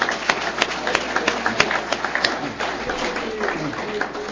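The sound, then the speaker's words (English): A short burst of applause celebrating those who could not celebrate their recovery milestone this year because their home group was shut down: scattered sharp claps from a small group, strongest at first and then thinning into a softer, steady patter with a faint murmur of voices underneath. “Give yourself a round of applause if you didn't get to celebrate this year.”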